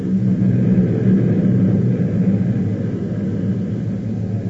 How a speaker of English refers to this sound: I just wanted to enjoy that sound. That was Zubanski's plane taking off.